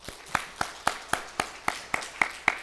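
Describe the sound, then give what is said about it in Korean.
A church audience claps together in a steady, even rhythm, about ten sharp, crisp claps landing on a regular beat with no talking over them, welcoming back a church member who has returned after a 14-day quarantine. “우리 박수 한번 하겠습니다.”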